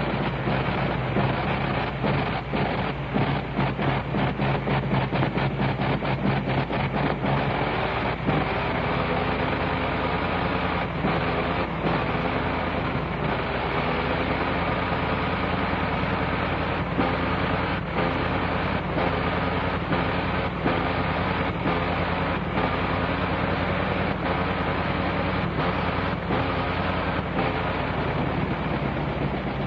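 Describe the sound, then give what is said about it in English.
A big 425-horsepower Liberty aircraft engine runs loud, a steady rough rumble with rapid pulsing firing beats that shift slightly as it warms up, with no voices over it. “There, now she's warming up.”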